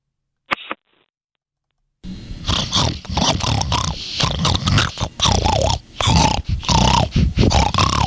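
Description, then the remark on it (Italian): A pig that has come into a studio grunts and snorts loudly in a rapid run of rough, throaty bursts lasting several seconds, preceded by a brief click and a moment of silence. “Ecco, questo qui era il maiale che è entrato un attimo nello studio per sottolineare quanto, ad esempio, lo sfruttamento, gli allevamenti intensivi di maiali siano veramente terribili.”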